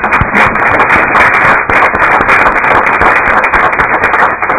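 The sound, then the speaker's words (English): A crowd at a K-12 Policy Committee meeting breaks into sustained applause welcoming a group of young people, a dense, steady crackle of many hands clapping at once, loud and unbroken for several seconds with no voices over it. “So, folks, if you can just show your appreciation and welcome to these young folks here, that'd be great.”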